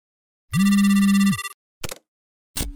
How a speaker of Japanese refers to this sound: あなたは電話回線のちょうど中間に隠れている。 電話のベルが鳴っているわ。